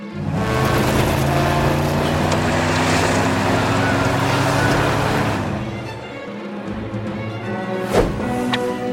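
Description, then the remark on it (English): A speeding truck engine roars loudly and steadily for several seconds, then fades away, leaving wind-like rushing noise with a brief whoosh near the end. “It's unbelievable how you can keep up with a speeding truck by swinging on vines.”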